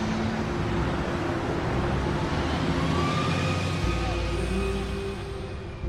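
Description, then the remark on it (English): A city bus's engine rumbles steadily, its low drone shifting in pitch as it pulls away from a stop after a boy pays his fare, with a broad wash of road and cabin noise throughout. “A boy stuffs a dollar bill into the fare box and the bus takes off.”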